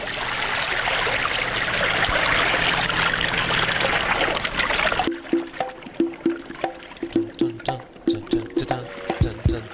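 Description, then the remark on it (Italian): A steady, loud rushing wash like crashing sea waves fills the first half, then cuts off abruptly into sparse rhythmic music with regular tonal plucks. “Si trovavano un po' questi effetti, no? Il mare per i tamburi.”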